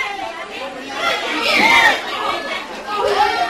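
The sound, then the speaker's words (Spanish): Schoolchildren of infant, primary and special education returning to their classrooms at schools in Seville, chattering and shouting at once, a dense wash of overlapping high-pitched voices with occasional louder cries rising above the din. “Es el griterío de los alumnos de segundo ciclo de infantil, primaria y educación especial que regresaron hoy a sus aulas.”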